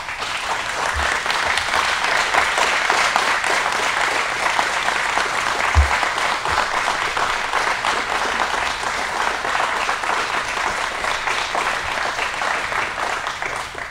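Sustained applause from a large audience recognizing a corporal's military service, a dense, steady wash of clapping that stays loud and even for the whole stretch without any voices rising above it.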